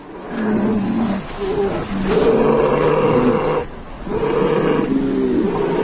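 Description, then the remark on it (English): Polar bears in the Arctic roar and growl loudly while fighting as they hunt seals, deep rumbling bellows coming in three long, overlapping bouts separated by brief lulls, with no talking. “Hear the sound of polar bears. This is from a National Geographic documentary. Fighting as they hunt seals in the Arctic.”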